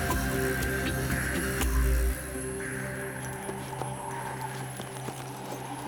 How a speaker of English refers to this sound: The horses tugged at the reins that hitched them to tree limbs. They didn't like being close to old Korska and the undead infesting it.